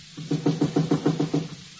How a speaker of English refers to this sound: You hear that? Yeah. Knocking at the back door. Funny time of night for somebody to come visit me.